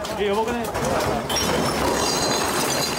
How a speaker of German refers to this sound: In einer Bar rutschen die Gläser und Getränke von der Theke. Alle merken es sofort, das Beben ist stärker als alle anderen in den vergangenen Monaten und Jahren.